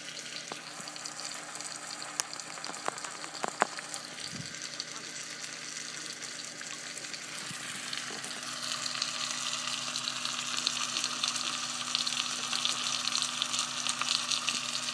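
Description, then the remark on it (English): A pan sizzles steadily with frying food, a dense crackling hiss that grows a little louder and busier toward the end, with a few faint clicks and clatters early on. “So I don't know where you got to, but we now have a pan sizzling away.”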